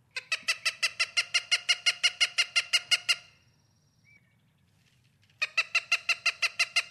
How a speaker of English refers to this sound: I want to listen to the Cooper's hawk and let's talk about him a little bit.